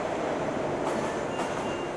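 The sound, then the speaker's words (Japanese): An electric train arrives at a station with a steady, broad rumble and hiss, fairly loud, with a couple of brief brighter bursts like brakes or air releasing; no one speaks. “ちょうど電車が来たみたいね。”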